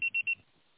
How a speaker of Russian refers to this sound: Аппарат вызываемого абонента занят. Ваш звонок был переадресован на голосовой почтовый ящик. Можете оставить сообщение после сигнала.